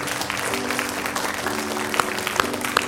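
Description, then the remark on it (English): An audience at a church worship service applauds steadily, many hands clapping at once in a dense, continuous patter, with a few sharper claps standing out and a low sustained tone humming underneath. “Don't ever try to hold back your clap now.”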